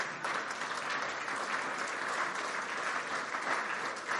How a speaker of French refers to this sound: Pouvez-vous applaudir le Saint-Esprit ce matin?